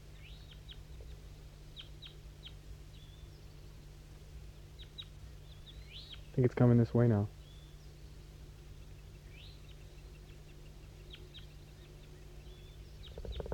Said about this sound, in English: So recording 5-3 is calling to that wild bird down the hollow now. It's getting a little bit more active. Stop. Start recording. That wild bird down the hollow started to sing.